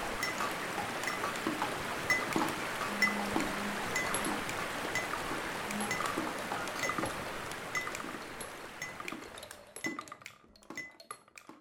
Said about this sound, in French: Bruit de ruisseau sur l'un des bassins versants de la rivière Drôme.